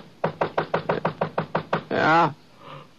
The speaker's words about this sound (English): Must have been about 4:15 when I heard somebody pounding at the door.